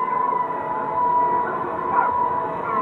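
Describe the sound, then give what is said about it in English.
A dense, muffled wash of sound, a recording slowed and pitched down another octave, with a crowd-like murmur and a steady wailing tone running through it like a siren, continuous for a few seconds. “It also still sounds a little bit like a crowd, but there's a little bit of maybe the siren or something like that.”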